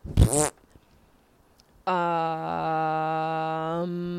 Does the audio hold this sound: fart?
yes